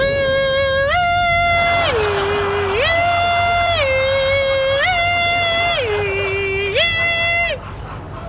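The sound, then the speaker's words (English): In Leonard's car, Sheldon imitates a Belgian ambulance two-tone siren with his voice, swinging steadily between a higher and a lower sustained note about once a second, loud and unbroken for roughly seven seconds over faint background noise. “In Leonard's car, Sheldon imitates a siren.”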